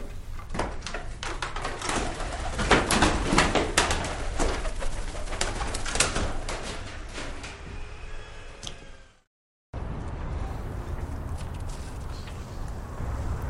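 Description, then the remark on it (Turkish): Pigeons coo in an attic amid busy scuffling and fluttering as someone chases them, for several seconds; after a brief dropout, a steadier, quieter background continues. “Çatı arasında güvercin kovalayan Savaş.”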